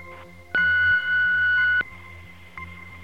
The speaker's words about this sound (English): Leave your message and your email address after the beep.